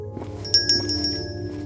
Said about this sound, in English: The bell of the door chimed as I watched Sybil walk off into the fog until I could no longer see her.